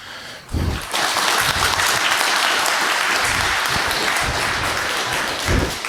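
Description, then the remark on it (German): An audience bursts into loud, sustained applause for a speaker after a brief quiet moment, many hands clapping densely and steadily for several seconds without any talking. “Ich wünsche mir nur, dass ihr nochmal einmal, weil es früh morgens ist, den Speaker nochmal mit einem sehr schönen Applaus wach macht.”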